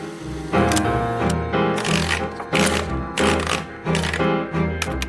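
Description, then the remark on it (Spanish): Typewriter keys clack in an irregular run of sharp, loud, clear strikes over a steady, low, sustained musical tone in the background; a typewriter in a small night-shift office at a metalworks, used to type short stories. “En la oficinita había una máquina de escribir, luz, hasta una estufa. Me interrumpían un par de veces para que les entregara los guantes a los pocos operarios que quedaban y yo tipeaba tranquilo mis primeros cuentitos.”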